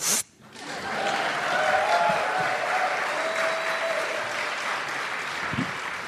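An audience breaks into sustained applause welcoming a show's first guest, a dense, steady wash of clapping that swells after a brief pause and holds at a fairly loud level, with a few cheers and whoops mixed in.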